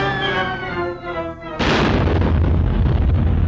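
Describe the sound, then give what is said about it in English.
A falling whistle drops in pitch for over a second as a character plummets from the rafters into a wrestling ring, then a huge explosion bursts in and continues as a loud, sustained rumbling roar. “Toby shoots high up to the rafters, then plummets to the ring with a huge explosion.”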